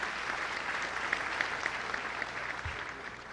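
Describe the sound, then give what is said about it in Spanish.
An audience, joined by people from Arauca, applauds steadily at a school in tribute to a composer on his 80th birthday, a dense wash of many clapping hands at an even, sustained level with a few sharper individual claps poking through. “Con los compatriotas araucanos, mandamos un aplauso muy sentido al maestro … en sus 80 años.”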